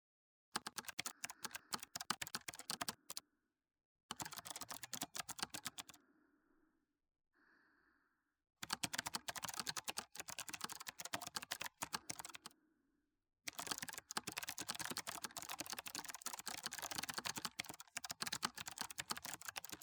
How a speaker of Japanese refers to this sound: さーて、このメカニカルなキーボードは何ですか？